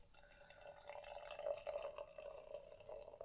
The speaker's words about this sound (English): That's beer pouring